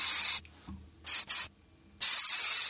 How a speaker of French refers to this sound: Un push-push? Un push-push? Ah, je vais y donner. Ben oui, c'est du spray net. Bravo. Mais oui. Ah, oh, moi, je crois que c'est plus un son de shampoing sec.